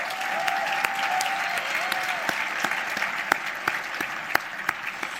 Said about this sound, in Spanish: Seguim amb aplaudiments.